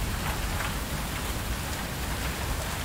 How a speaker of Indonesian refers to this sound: di luar sana yang terhambat langkahnya karena hujan yang deras. Iya, seperti aku juga. Kadang-kadang mau mengutuk hujan kala ia turun tak tepat waktu.